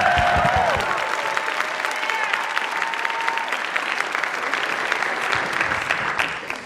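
A crowd applauds steadily for several seconds in dense clapping as two performers are welcomed on stage to sing a theme song they wrote, with a few whoops and cheers rising over it near the start before the applause tapers off at the end.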